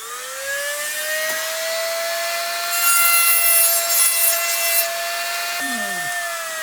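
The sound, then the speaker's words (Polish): A small dental-type rotary drill, in use for about 40 years, whines steadily at a high pitch, its tone rising slightly. In the middle it bites into a walnut shell with a gritty grinding rasp, then spins down and back up. “Freziki, wiertarki najróżniejsze od jakichś dentystycznych. Ta wiertarkę używam już powiedzmy 40 lat.”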